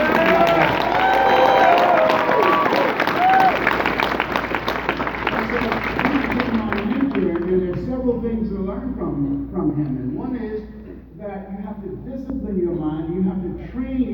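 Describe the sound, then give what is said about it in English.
An audience applauds and cheers loudly for about seven seconds, a dense burst of clapping with a few whistles. The applause fades out as a man's voice begins speaking. “Give yourself and your dreams a round of applause.”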